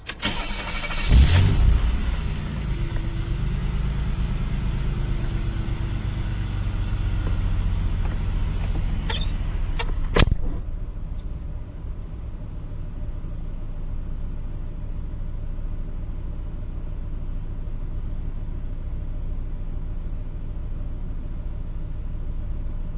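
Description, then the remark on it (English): A car engine cranks and revs briefly with the door open, then settles into a steady, rumbling idle, heard at head level. About halfway through the car door thuds shut, and the idle continues more muffled and quieter, with no talking. “What you're about to hear will be with the microphone position at the head level, with the car starting with the door open, and then I'm going to close the door to give you a feel for how loud it is with the door closed.”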